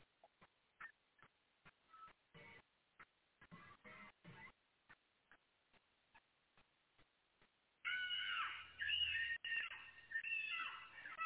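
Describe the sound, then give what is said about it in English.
Scattered sharp ticks give way to a loud, shrill, sustained scream as a woman imitates a hawk's cry while screaming, the high piercing pitch wavering for several seconds. “She just did a hawk noise while she was screaming.”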